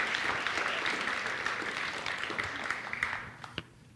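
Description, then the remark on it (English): A church audience applauds steadily to affirm its youth and team who went on a trip the past week, a dense wash of many hands clapping at once that holds for several seconds, then thins out toward the end with a few last scattered claps. “Let's just affirm our youth and our team that went this last week with a word of applause.”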